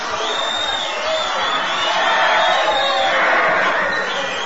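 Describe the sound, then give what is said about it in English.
A large crowd gathering in a city square cheers and shouts continuously, a dense roar of many voices with occasional higher whoops rising above the steady wash of noise. “Meanwhile, the crowds gather.”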